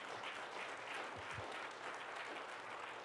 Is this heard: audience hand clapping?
yes